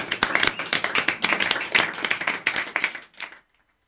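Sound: applause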